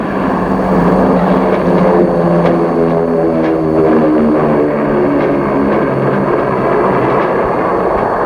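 airplane flying

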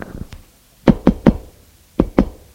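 knocking on a door

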